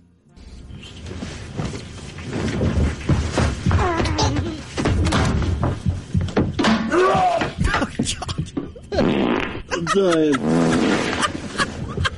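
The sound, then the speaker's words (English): A couple of fart sounds play from a recorded clip of the Ticket radio station, boosted in volume, low blurts and thuds mixed in with voices and laughter, somewhat muffled, over a steady background hum. “Ticket fart right there.”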